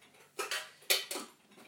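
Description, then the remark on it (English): Small metal clock keys clink and rattle inside a tin as someone rummages for a clock winder, four quick bright jangling bursts spread across the moment with no one talking. “Aha! Tin of clock keys. And there is said winder.”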